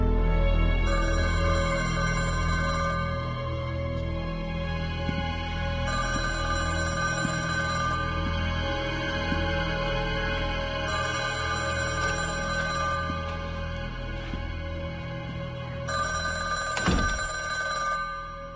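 telephone ringing

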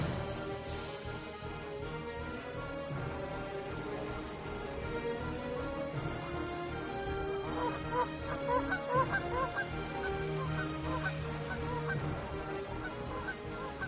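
geese honking in flight

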